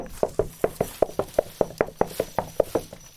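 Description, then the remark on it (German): Quick, evenly spaced footfalls of two people running along a path to a treasure chest, about five steps per second, each a crisp thud, steady for a few seconds with no voices. “Schnell rennen die zwei zur Schatztruhe.”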